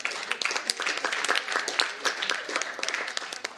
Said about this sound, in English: I think that's a very great report from Apralo. I think we should, they deserve a really great hand clap, especially.